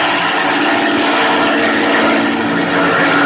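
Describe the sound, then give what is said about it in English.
A loud, steady airplane engine roars, a dense continuous drone with a faint rising and falling edge as the aircraft passes low, banking right over the spot as a signal. No voices are heard. “Chuck's right over it. He's banking the plane.”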